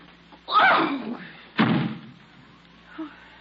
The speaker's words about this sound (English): Don't slam the door.